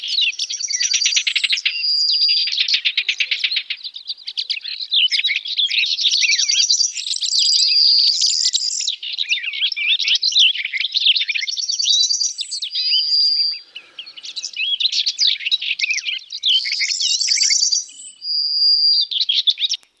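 Continuous, bright birdsong with rapid chirps, trills and whistled notes, loud, filling the whole stretch without pause and with no talking.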